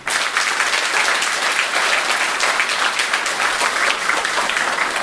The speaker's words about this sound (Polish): A więc szanowni państwo, droga młodzieży, witam bardzo serdecznie na koncercie finałowym 4. Festiwalu Dobrej Piosenki w Brzeźnie i z tego miejsca też poproszę o brawa.